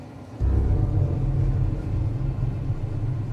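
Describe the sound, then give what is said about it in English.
A deep, steady rumble rises abruptly after a brief quieter moment and holds fairly loud, like a train rolling continuously along its tracks, with no voices. “Does this train ever stop?”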